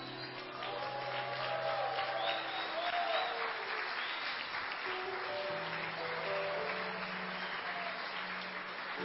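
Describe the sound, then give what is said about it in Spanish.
An audience applauds the attendees under 30 who have stood up, steadily for about nine seconds, a dense, even wash of clapping that stays loud throughout, with some voices and a faint tonal hum underneath. “Sí, vamos a aplaudir a esta generación.”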